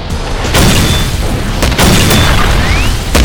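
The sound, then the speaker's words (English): A loud 40mm high-explosive grenade, fired from an H&K 69 grenade launcher, explodes with a heavy, low rumble, with several sharp cracks bursting through it over the next few seconds and no voices. “The man closest to him dropped to a knee, his H&K 69 at his shoulder, packed with a 40mm high-explosive projectile.”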